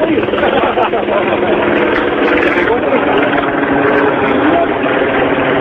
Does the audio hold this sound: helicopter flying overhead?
yes